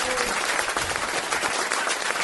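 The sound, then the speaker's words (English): A crowd bursts into dense, sustained applause for a guest musician, loud, with many hands clapping continuously for the whole stretch and no pauses. “Can we have a big round of applause for our very special guest, Mr.”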